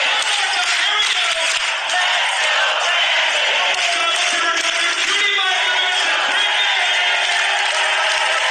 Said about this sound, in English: A spontaneous "Let's go, Brandon" chant during church. Do you think somebody might get saved from that?